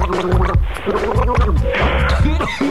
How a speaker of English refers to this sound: Hey, you know how I cure your hiccups? Ow. What you do is you turn almost upside down, bend over. Huh? You bend over and you drink something.